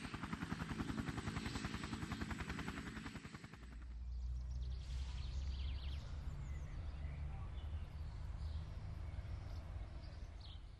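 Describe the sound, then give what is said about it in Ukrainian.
A helicopter roars with rapid, chopping rotor pulses for several seconds, then the sound shifts to a steady low engine drone as it flies on, with faint chirps over the hum. “Наступного тижня Павло з сім'єю на ще потужнішому вертольоті полетів до більшого міста з більшим парком і вищим деревом”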